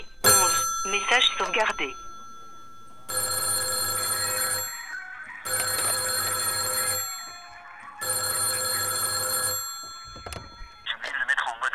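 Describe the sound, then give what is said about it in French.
A telephone rings three times in long, steady bursts with short pauses between, loud. Brief bits of voice come just before the first ring and right after the last. “Tu fais chier avec cette histoire de téléphone, là.”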